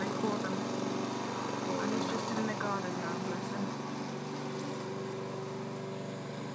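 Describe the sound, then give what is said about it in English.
A petrol push lawn mower engine runs steadily and loudly, its continuous rumbling drone holding level throughout, with faint voices occasionally audible beneath it. “But this one's just a normal one, normal petrol one, pushy one.”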